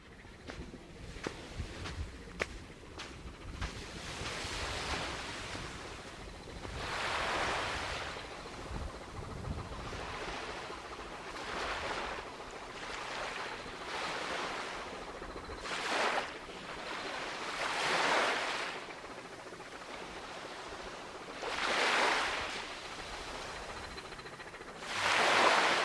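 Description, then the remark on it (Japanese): Small waves wash onto the sandy beach in front of the Minshuku Mihara guesthouse on Umashima island in repeated soft surges, each swell rising and receding, with a faint low engine rumble of a ferry underneath and no voices. “インタビューを行った民宿三原さんの前に広がる砂浜のところで、まあ、波の音が取れました。ここでちょっとかすかにフェリーの音などが聞こえるので、そういうところもぜひ聞いてもらえたらと思います。”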